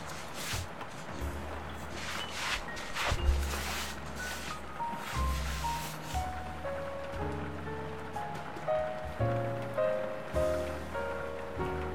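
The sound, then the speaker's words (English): A steady, dense hiss of heavy rain pouring down outside a cat cafe, without pause for the whole stretch, with a soft melody of sustained tones playing over it. “It's pouring down outside, isn't it?”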